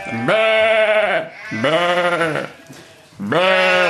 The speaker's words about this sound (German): Wer hat denn die Schafe hier ins Studio gelassen? Das gibt's doch gar nicht.